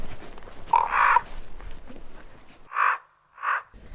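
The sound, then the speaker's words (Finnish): Three hoarse, croaking calls from a common raven, one longer call first and then two shorter ones with a pause between, clear against soft outdoor background noise. “Professori Juhani Karhumäki kertoi korpista, joka tuossa lopuksi kraakkui vielä tunnusomaisella äänellään.”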